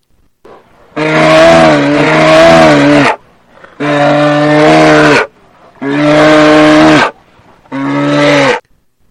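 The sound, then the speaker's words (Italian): A moose named Rufus bellows angrily in four long, loud, groaning calls, each lasting a second or two with short pauses between, unaccompanied by any talking. “Una delle persone che non è stata molto toccata dall'evento, e noi ce ne siamo dispiaciuti, è stata l'Alce Rufus.”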